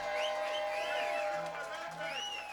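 A crowd claps and cheers steadily for the band's Telecaster guitar player, with high whoops and sliding whistles rising and falling over a dense, continuous wash of applause that stays loud throughout.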